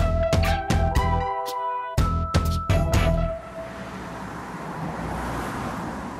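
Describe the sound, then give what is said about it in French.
A few bright, plucked musical notes ring out, then give way to a steady outdoor street hum of traffic on Vulkanstraße, a red-light district in Duisburg, western Germany: a broad low roar of moving cars with no talking. “Nous sommes dans la Vulkanstraße à Duisburg, c'est dans l'ouest de l'Allemagne.”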